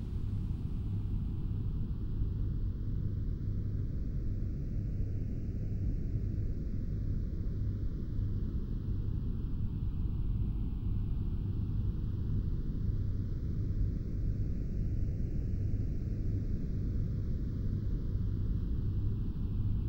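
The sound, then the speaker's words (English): Steady pink noise with a slow, swishing phaser sweep that rises and falls roughly every ten seconds, a constant level throughout with no voices. “This swishing sound will help block any distracting noise from the outer world and help you relax even further.”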